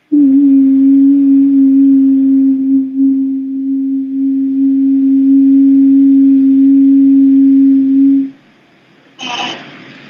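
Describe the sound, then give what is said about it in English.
A steady, low sine-like tone hums continuously for about eight seconds, then cuts off, followed by a brief burst of brighter noise near the end. No one speaks. “Vowels are more like a sine wave, or they're based on sine wave.”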